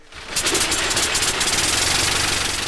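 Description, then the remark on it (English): A brand-new 1908 engine, its propellers swung through by two men, catches and roars to life after a brief quiet moment, then runs loud with a fast, steady rhythmic chugging and rattling. No one speaks. “And then it becomes real. The brand new 1908 engine finds its own sound.”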